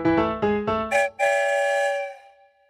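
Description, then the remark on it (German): A train sounds its whistle at the busy Barmbek station in Hamburg, where trains come and go every minute: a quick series of short tonal blasts, then one long, loud held note that slowly fades out. No voices. “Die Züge fahren im Minutentakt ein und aus, geballte Menschenmengen drängeln sich in die einfahrenden Züge”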